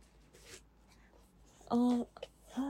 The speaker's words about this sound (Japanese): じゃあ、早速開封していこうと思うんですけど、袋から出していきます。ちょっとガサガサしてる。